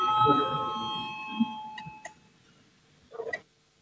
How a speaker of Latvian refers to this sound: Lūdzu, zvanu, balsosim par 15. iekšlietu ministra Girdena priekšlikumu.